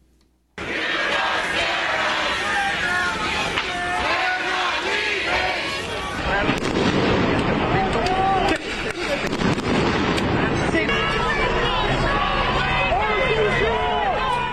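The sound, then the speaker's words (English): Flashbang grenades used by police go off with sharp, heavy bangs amid a chaotic, shouting crowd of protesters at a pro-Palestinian encampment on UCLA's campus, with several blasts around the middle and loud yelling and commotion throughout. “police and riot gear are dismantling a pro-Palestinian encampment on UCLA's campus after hundreds of police used flashbang grenades, rubber bullets, and tear gas in a face-off with protesters who chanted, "We are not leaving, you don't scare us."”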